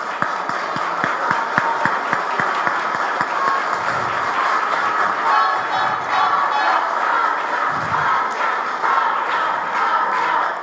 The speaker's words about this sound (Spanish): Pido un aplauso, por favor, para Rosa.